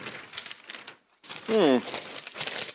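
Newspaper pages rustle and crinkle as a finished paper is handed over, a dry papery crackle that pauses briefly, then resumes with a short vocal murmur in the middle of the handling.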